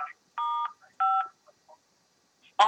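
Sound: telephone keypad tones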